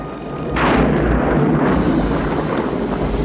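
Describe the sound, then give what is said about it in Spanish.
Thunder as lightning bursts in a storm with a hurricane approaching a ship at sea: a loud burst breaks in after a brief quiet moment and rolls on as a heavy, deep rumble with a crackling edge, continuing to the end with no voices. “Estallan relámpagos.”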